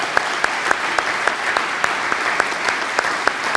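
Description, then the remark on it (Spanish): An audience applauds steadily, the dense clatter of many hands punctuated by a regular rhythm of louder claps roughly every third of a second, with no voices heard. “Si el aplauso, que sea el aplauso para el Señor.”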